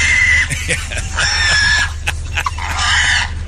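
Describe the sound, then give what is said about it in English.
A pig squeals in loud, shrill bursts, several piercing cries in quick succession over a steady low rumble, frantic as if struggling, as it is caught with a diving tackle. “Now listen to the audio. No, that pig's got to be losing it.”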